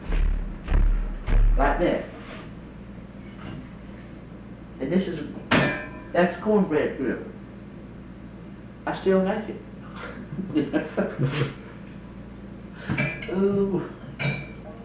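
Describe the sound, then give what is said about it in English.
A heavy cast iron cornbread griddle is handled with a few dull, low thumps and clanks at the start. People then talk, with occasional light knocks between their voices. “And this is, that's cornbread griddle. I still like it. Ooh. Well, most of them made out of that. They're made out of cast iron.”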